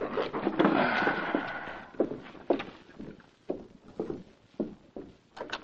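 knock

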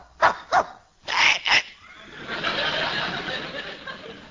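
dog barking and whimpering

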